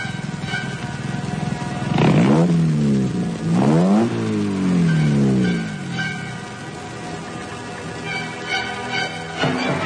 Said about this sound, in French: Une voiture s'est arrêtée.